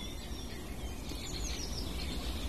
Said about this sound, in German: Zu hören war immer wieder auch der Buchfink mit dem Pink Pink und Rüb und natürlich auch sein Gesang. Das Rotkehlchen ganz zart, was fast ein bisschen untergeht, sobald andere markantere, lautere Gesänge in der Nähe sind.